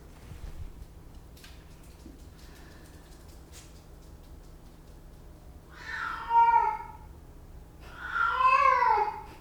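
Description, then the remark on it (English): A pet cat meows twice, a drawn-out wavering cry followed by a louder, longer second one, over a low steady hum with faint clicks and rustles earlier. “That's just my kitty.”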